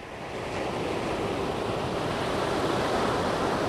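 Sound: ocean waves breaking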